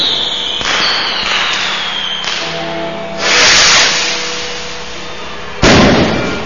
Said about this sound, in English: And as the NDW music sounds throughout our arena, look at the pyrotechnic shoot warming up this stage for the dirtiest player in the game.